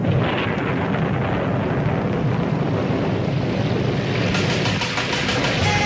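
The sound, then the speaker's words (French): A loud, steady roll of thunder rumbles throughout, blended with a broad hiss like pouring rain, with a slightly pulsing texture near the end and no voices. “Ça y est, il commence à pleuvoir.”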